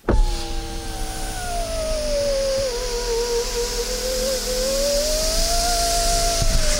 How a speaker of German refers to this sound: Wisst ihr, was das war? Das war ein elektrischer Fensterheber in einem Auto. Ganz schön laut, ne? Das fällt einem normalerweise gar nicht so auf, denn wenn man fährt mit diesem Auto, dann hört man ja in erster Linie den Motor.